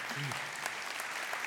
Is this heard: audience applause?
yes